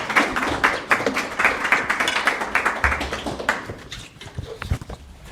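An audience applauds to welcome Professor Per Klatten, a dense, steady patter of many hands clapping together for a few seconds, loud and continuous before thinning out toward the end.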